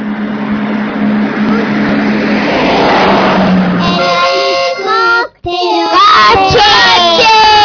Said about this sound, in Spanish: Es verdad, esos son los coches.